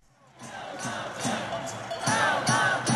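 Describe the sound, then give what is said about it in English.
A dense, echoing crowd of thousands of protesters roars and chants inside a state Capitol Rotunda, packed up to 10 deep along the upper-floor rails, with rhythmic bursts of shouting and thumping repeating roughly every half second, loud. They protest the governor's plan to cut state workers' pay and limit unions' collective bargaining rights, forced indoors by snow, slush, rain and sleet. “But thousands still packed into the Capitol Rotunda, and they crammed themselves up to 10 deep along the rails of the upper floors to voice their”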